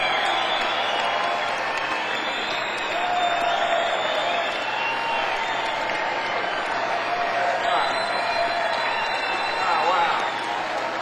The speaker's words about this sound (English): They've done everything they could ever do for us, and I think they deserve a real big hand of applause. And thank you from all of us.